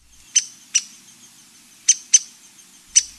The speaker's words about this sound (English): The downies have a chip chip call, and then it sounds again like a coin spinning down just a little bit and gets faster towards the end.